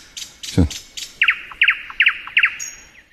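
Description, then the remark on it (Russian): A nightingale at Sokolinaya Gora sings a bright, rhythmic trill: quick sharp chips give way to repeated paired whistled notes, clear, with a brief low thump near the start. “Откуда там соловьи, интересно?”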